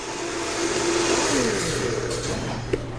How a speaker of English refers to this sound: He's adding them after smoothing out the soup in the blender.